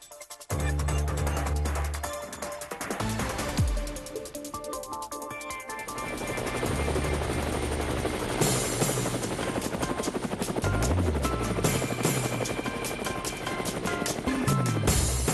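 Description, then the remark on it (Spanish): A helicopter sound effect: the rotor thumps steadily and loudly throughout, a dense, continuous chopping roar with a churning engine whine layered on top, with no voices. “Bueno, con tantas noticias hoy martes, pues es agradable montarse en el helicóptero y ya nuestra productora y el que les habla estamos ready para seguir a nuestra colega Exilda Arjona.”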